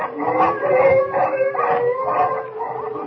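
pack of wolves howling

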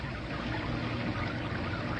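rain

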